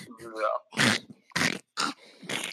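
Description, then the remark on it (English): A person vocally imitates a cat hacking up a hairball: a short voiced lead-in, then four harsh, raspy retching bursts with brief gaps between them. “That sound, you ever seen a cat spit a hairball?”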